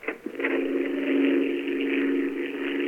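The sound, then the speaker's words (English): An airplane drones overhead in a steady, continuous engine hum, a low buzzing tone with a rough, hissy edge that holds at a fairly even loudness throughout, with no voices. “Frank, there is a plane up there. Yeah, I hear it. By the sound, it's sizzling overhead.”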